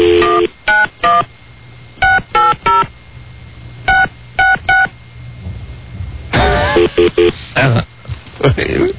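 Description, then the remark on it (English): Bursts of telephone dialing tones, short dual-pitch beeps in quick groups of three or four separated by pauses, loud, with a brief stretch of muffled voice-like sound in between. “So now, what's the deal with the phone?”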